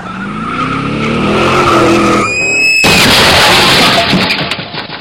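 A car's tires screech in a long, loud skid, followed by a sudden violent crash of impact and scattering debris that rings out and fades over a few seconds.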